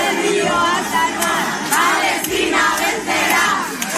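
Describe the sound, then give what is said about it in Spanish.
A large crowd at Barajas airport chants protest slogans in unison, such as "Palestina vencerá, desde el río hasta el mar," while receiving the 21 Spanish members of the flotilla. The chanting is loud and sustained, with rhythmic rising shouts repeating about every second over a dense roar of voices. “Que fueron recibidos en Barajas con gritos como este de Palestina vencerá, desde el río hasta el mar, se refieren al río Jordán y al mar Mediterráneo, es decir, la desaparición de Israel.”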